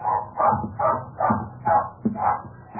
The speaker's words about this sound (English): You can understand our big surprise when suddenly Enid began barking wildly.